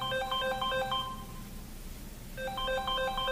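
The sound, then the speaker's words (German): An office telephone rings during working hours in two electronic trilling bursts separated by a pause of about a second, clear, with no one speaking. “Während der Arbeitszeit in ihrem Büro wird … immer wieder angerufen.”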